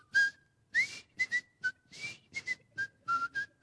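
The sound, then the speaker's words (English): A person whistles the jaunty, bouncy theme tune of the Andy Griffith Show alone, a quick series of clear, short notes and little phrases in a lively rhythm, fairly loud. “Some of y'all might know that, but I might whistle just a little bit for you if you'll let me, okay?”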